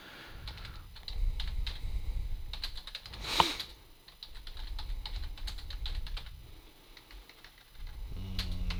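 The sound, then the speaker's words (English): Rapid, irregular clicking of keys on a sticking computer keyboard, fairly loud, with bursts of keystrokes and one sharper clack partway through; no voices. “Stop that keyboard.”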